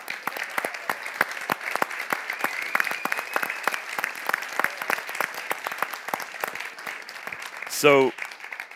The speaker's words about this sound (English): And by the way, can you stand up if you're a teacher? You stand up if you're a teacher? Let's give teachers a big round of applause.